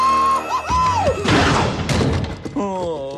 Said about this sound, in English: The space cadet bangs into a wall and passes out. His helmet rolls toward Ralph.